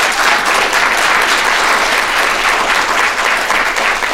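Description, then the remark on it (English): A steady, dense round of audience applause for guest Jeff Prescott, many hands clapping together at a loud, even level for several seconds with no voices over it. “Jeffrey, everybody, a warm round of applause for Jeff Prescott.”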